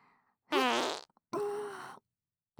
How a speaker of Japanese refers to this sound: はい、私のおなら、プー。 やだ、もう。何この大根臭。くっさーい。